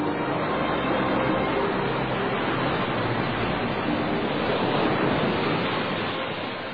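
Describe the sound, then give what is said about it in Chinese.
Loud, unbroken rush of ocean waves and wind in a storm as the ship carrying Hudson Taylor away from British territory nearly sinks, a dense roaring wash that holds steady throughout before easing slightly at the end, with no voices. “船将戴德生带离了英国领土，还没有进入大海就遇到了风浪，船几乎快沉下去。”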